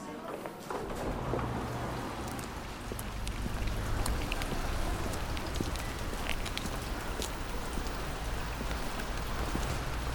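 Soft, steady rain falls continuously, a dense patter of drops with occasional sharper taps, over a faint low rumble.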